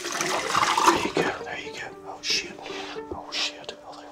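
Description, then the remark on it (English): Potassium cyanide is poured into a bucket in a brief, rushing splash lasting about a second, followed by softer intermittent whispery bursts over a faint steady hum. “It's not only the fact that he is right now pouring potassium cyanide into a bucket in front of me that makes me wonder this.”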